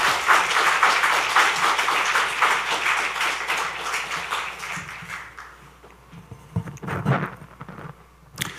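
A church audience at the last Sunday afternoon worship service of 2024 claps steadily in dense, sustained applause welcoming the high school ministry's evangelist to the pulpit to preach. The applause gradually thins and fades, leaving scattered footsteps and shuffling near the end.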